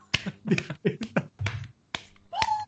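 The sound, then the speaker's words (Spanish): One person clapping their hands: about seven sharp, crisp claps at an uneven, unhurried pace, with short gaps between them and no voices. “Estoy aplaudiendo.”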